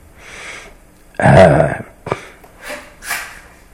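One loud sneeze bursts out abruptly, then quieter sniffs and breaths follow in the brief pause afterward.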